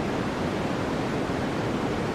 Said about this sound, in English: I found out the top three things that people listen to go to sleep at night. Okay. Number one is white noise.